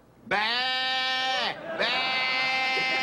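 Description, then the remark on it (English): A voice imitates a baby's cry but comes out as two loud, drawn-out, quavering bleats like a sheep, separated by a short pause, with no other talking. “That sounds like a sheep. I said baby sound.”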